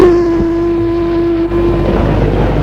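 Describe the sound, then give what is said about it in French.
A boat engine drones steadily as the boat arrives, with a constant tonal hum over low rumbling water noise; partway through, the rumble thickens and grows rougher as the motor keeps running. “La mère et la fille sont arrivées par bateau.”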